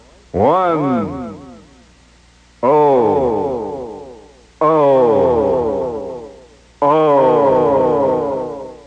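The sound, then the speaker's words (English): A man's voice on a radio broadcast reads out the New York zip code 1-0-0-1 in four short bursts, each followed by a long, smeared echo tail that fades out before the next digit, giving the words a heavy, ringing reverberation. “And the zip code, symbolically enough, a little echo will help here,”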